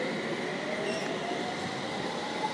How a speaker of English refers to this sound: So much quieter. Wow. It's a new train, isn't it?